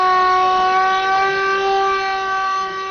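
A loud general danger warning siren in Mostar blares continuously at a steady, unwavering pitch for the whole stretch, sounded on the anniversary of the destruction of the Old Bridge, alone with no voices.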